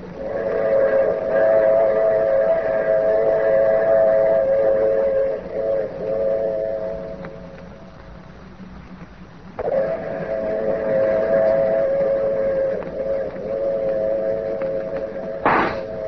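A train rumbles loudly past, its whistle sounding long, sustained blasts that fade briefly midway, then return, ending with a sharp, sudden burst of noise.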